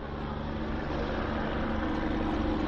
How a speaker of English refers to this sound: Helicopters fly overhead, assessing the damage.